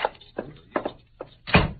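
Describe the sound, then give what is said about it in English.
A few heavy, unhurried footsteps on a wooden floor, followed by a louder thud of a door being shut as men leave, in a Cisco Kid radio drama. “Come, Pancho, and back out the door.”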